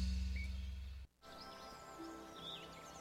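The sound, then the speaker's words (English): Faint birds chirp in short scattered calls over a steady low background hum, with a brief dip in sound near the start. “And we're back with the birds.”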